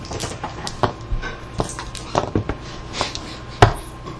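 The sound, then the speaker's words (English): Dice rolled to double-check a search roll clatter on a hard surface, a scattered series of sharp, irregular clicks and knocks over a few seconds, with one louder clack near the end and no talking. “No, I'm rolling dice just to double-check something.”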